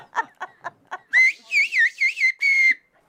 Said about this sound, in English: demonstrates her whistling chops, two other villagers devise a test to show that this isn't some kind of prearranged code, but an actual language.